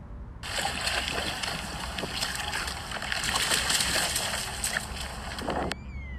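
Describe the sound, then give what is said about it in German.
A dog runs through shallow river water, splashing and sloshing steadily for about five seconds, fairly loud, then the sound cuts off abruptly. No voices. “Aber da der Fluss eigentlich auch keine Geräusche macht, musste mein Hund einmal durchlaufen.”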